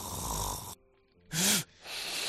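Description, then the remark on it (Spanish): Loud snoring in three harsh, rasping bursts separated by short quiet breaths, one with a throaty snorting tone. No one speaks. “Tras un ronquido fuerte como este que estamos escuchando, lo normal es que el individuo se despierte, se asusta a sí mismo, digamos, con lo cual no disfrutará del descanso y despertará agotado y somnoliento.”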